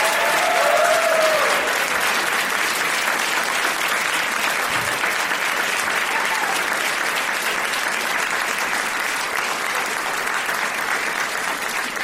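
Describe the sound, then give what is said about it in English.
Sustained audience applause, a dense steady wash of many hands clapping at an even loudness for the whole stretch, with a brief faint whistle or cheer near the start and no one talking. “They're just going to keep clapping until you tell them to stop.”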